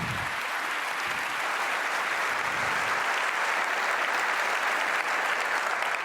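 Steady, sustained applause from a large audience, a dense wash of many hands clapping at once that holds at an even, fairly loud level for several seconds with no voices standing out.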